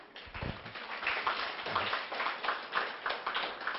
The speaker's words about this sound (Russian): Слушайте, ваши аплодисменты означают, что у вас есть силы. Это показатель того, что вы не отваливались в ходе этой длительной работы, а были во внимании.